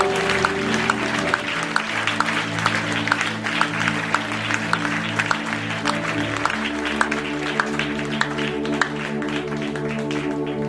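A church audience claps steadily and loudly for about ten seconds as a clap offering to Jesus, a dense patter of hands layered over sustained keyboard or organ chords playing underneath.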